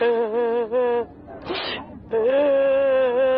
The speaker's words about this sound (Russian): что случилось? Ты чего плачешь?